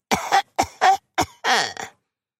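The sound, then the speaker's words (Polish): A piglet sitting on the stump of a felled tree outside a fox's den coughs lightly: a series of short, light coughs in quick succession, about five bursts, ending with a slightly longer raspy cough. “Przysiadł na pniu ściętego drzewa i lekko zakasłał.”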